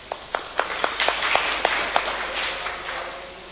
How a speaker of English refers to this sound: Give him a clap.